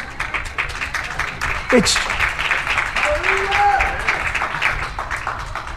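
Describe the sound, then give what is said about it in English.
An audience gives a pity applause, a dense, steady patter of many hands clapping that continues evenly for several seconds, with faint voices mixed in underneath. “The pity applause again, just like last week.”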